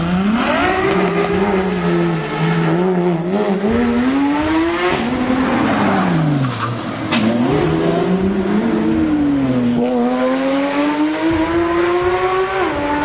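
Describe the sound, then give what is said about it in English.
Powerful exotic sports car engines rev loudly and accelerate hard at top speed around a quiet Beverly Hills neighborhood, their pitch climbing, dropping and surging again through gear changes in a sustained roar with no talking. “Recently, these scumbags from Qatar decided to drive their exotic cars at top speeds around a quiet Beverly Hills neighborhood.”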